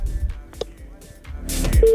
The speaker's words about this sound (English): It's ringing. Pick your phone.